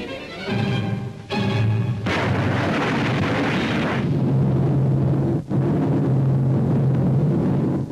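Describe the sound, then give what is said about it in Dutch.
A concrete bunker is demolished by a 1,200 kg TNT charge set off electrically. A powerful explosion erupts with a heavy blast and a brief break, then rolls on as a loud, sustained roar and rumble of debris for several seconds as 2,600 cubic meters of reinforced concrete are torn apart, with no voices. “Het trotiel werd langs elektrische weg tot ontploffing gebracht.”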